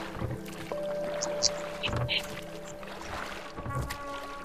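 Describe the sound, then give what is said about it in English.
Oars dip and pull through water in slow, regular strokes, with splashing and a faint creak carrying over a steady wash of background noise. “Rowing his new power boat.”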